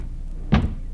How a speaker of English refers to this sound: Open the door quick. Hey, don't need the key. It's not locked. In you go, baby.